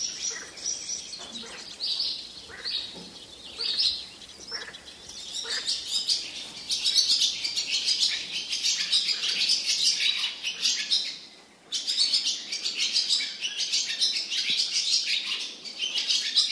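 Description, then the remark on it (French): A dense outdoor chorus of several bird species singing and chirping at once around Cordes in the Tarn, France, bright overlapping trills and tweets filling the air continuously, with a brief lull near the end before the chorus resumes. “Aux alentours de Cordes dans le Tarn, on peut entendre différentes espèces d'oiseaux.”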